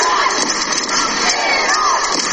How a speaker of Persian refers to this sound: اما در این استادیوم کوچک تعداد زیادی زنان ایرانی هم حضور پیدا کردن و در حال فریاد زدن و تشویق تیم ملی ایران هستن. صدای اونها رو با هم بشنویم.